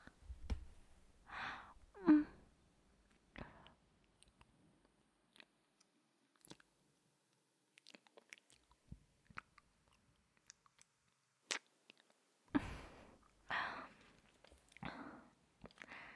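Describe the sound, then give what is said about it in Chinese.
Wet mouth sounds of nibbling and biting on an ear come in several soft bursts with small clicks and breaths, separated by quiet pauses, with a denser cluster near the end. “而且，弟弟啊，你的耳朵好红啊，好可爱啊，好想咬一口。”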